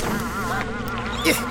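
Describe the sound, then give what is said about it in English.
A dense, continuous buzzing like a swarm of bees, coming from a delivered package that is opened and found to be empty; steady and fairly loud throughout, with wavering pitch and a brief swell near the end; no voices. “Hell is making it buzz like that? It sounds like a bees.”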